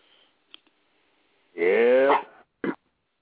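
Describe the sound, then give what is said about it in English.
A pet dog lets out one drawn-out, whining bark with a falling pitch, then a single short, sharp bark after a brief pause. Both are fairly loud, with no talking over them. “For the first I guess my dog got offended by that.”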